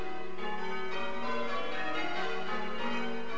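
Church bells rung by bell ringers sound in a continuous overlapping peal, strikes blending into a sustained, shimmering wash of tones, with no voices.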